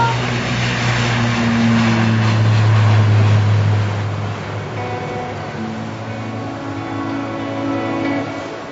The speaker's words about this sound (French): Bruit d'avion au loin.